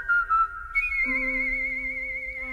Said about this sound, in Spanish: Bueno, esta sí es una flautilla, ¿eh?